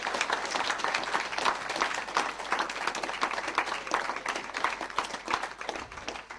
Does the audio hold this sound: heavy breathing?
no